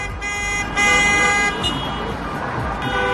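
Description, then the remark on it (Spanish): A noisy street protest by a caravan of vehicles in the streets of Badajoz, Spain: several car horns honk in long overlapping blasts over a dense, steady clatter of banging pots, loud throughout. “Este sonido que escuchas son las calles de Badajoz, bocinas y cacerolas que también se repetían en las calles de Cáceres.”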